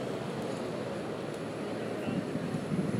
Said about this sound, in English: Sounds like an electric bus stopping there.